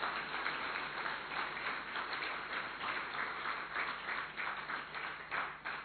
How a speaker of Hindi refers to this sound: ताली तो बजाओ भाई।